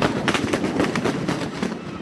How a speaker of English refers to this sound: A pickup truck pulled up with a machine gun on the back and opened fire on the crowd.